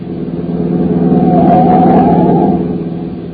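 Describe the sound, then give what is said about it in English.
A car engine roars loudly, swelling to a peak around the middle before easing off slightly as a car coming up from behind speeds past on a highway, with no voices. “Oh, I say, sir, there's a car coming up behind us like fury.”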